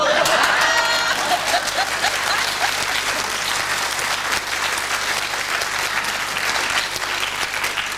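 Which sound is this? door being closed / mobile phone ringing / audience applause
audience applause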